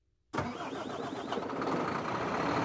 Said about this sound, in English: A truck depot in northwest Turkey, just 30 miles to the west, is the frontier with the European Union. But the depot does more and more business in the east with Lebanon, Jordan, Syria and Iran.